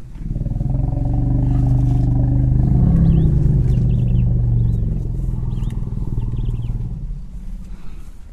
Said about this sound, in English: The fundamental of these sounds is too low for us to hear, generally between 15 and 20 hertz. Right. Do you want to play that the sound of the elephants doing this in the wild?